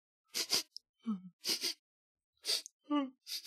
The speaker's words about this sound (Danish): Mens Geo står og nyder duften, hører han pludselig en, der snøfter over i busken med bøgetræet.